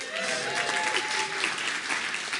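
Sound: audience hand clapping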